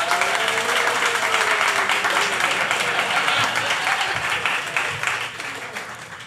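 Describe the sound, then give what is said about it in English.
A raucous debate audience applauds loudly with dense, steady clapping and scattered cheers and whoops as Shapeshift CEO Eric Voorhees and Euro Pacific Capital CEO Peter Schiff are called to the stage, holding strong for several seconds before tapering slightly at the end. “A very raucous crowd.”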